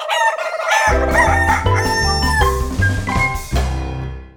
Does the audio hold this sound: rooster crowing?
yes